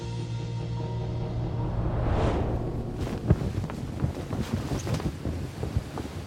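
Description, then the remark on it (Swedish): Mediterranean wind blows steadily over the coast of Sicily in the October sun, a low buffeting rumble that swells into a gust, then carries on alongside scattered splashes and knocks of water. No one speaks. “Medelhavets vindar stryker över Siciliens kuster och böljande fält i oktobersolen på hösten år 1347.”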